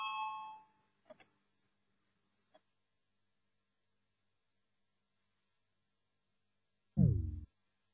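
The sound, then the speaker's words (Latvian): A parliamentary voting bell rung to call a vote on a bill amending the Criminal Procedure Law in second reading: a short ringing tone fades at the start, a few faint clicks follow, then after a long quiet stretch a loud, low electronic bell tone sounds briefly near the end. “Lūdzu, zvanu, balsosim par likuma projektu grozījumu krimināla procesa likumā otrajā lasījumā.”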